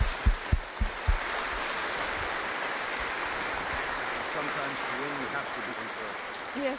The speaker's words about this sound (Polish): Mówię, ten człowiek jest ciągle w sądzie, ale można też odnieść zwycięstwa i może też brawo dla tego, co tam jest czynione.